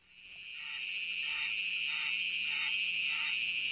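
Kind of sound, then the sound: insect, cicada buzzing call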